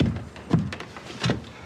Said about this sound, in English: Pulls off a piece of door trim.